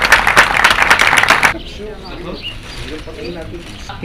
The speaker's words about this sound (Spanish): A las dos, un fuerte aplauso.